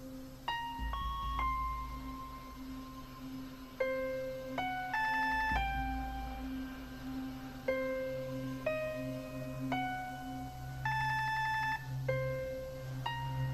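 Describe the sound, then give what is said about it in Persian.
A telephone rings with an electronic melody of sustained, bright tones stepping up and down in pitch, repeating steadily for several seconds over a low background hum, with no one talking. “الو الو الو گوشی رو بردار. میدونم که خونه‌ای. گوشی رو بردار.”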